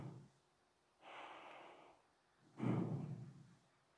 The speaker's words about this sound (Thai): ลดระยะการหายใจเข้าเหลือครึ่งหนึ่งแล้วกระแทกลมไปที่จุดกระทบนะแต่กระแทกเบาๆอย่าให้มีเสียงแล้วก็จาก 100% เข้าลึกเหลือแค่ครึ่งเดียว 5% 50% นะแล้วก็ปล่อยลมเข้าออกไปเข้าไปแล้วก็หายใจออกก็เหมือนกันแต่ไม่มีเสียงอะไรคล้ายๆอย่างเงี้ย